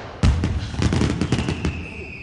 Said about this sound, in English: And be careful of the box of fireworks, because